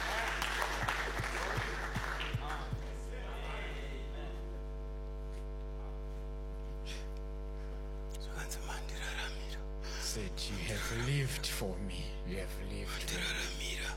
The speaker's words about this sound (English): Yomberere maoko maniwe. Clap hands for me. Yes.